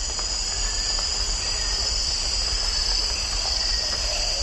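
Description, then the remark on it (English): A dense, continuous night chorus of insects and frogs fills a tropical rainforest, with steady high-pitched trilling and buzzing layered over scattered croaks, loud and unbroken, with no voices. “A lot of frogs, a lot of insects.”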